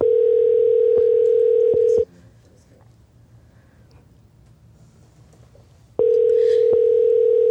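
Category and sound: signal or alarm, telephone call tone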